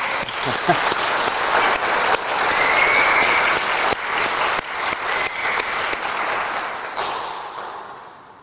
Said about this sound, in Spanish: Otra vez felicidad por sus 30 años. Un aplauso otra vez, ¿eh?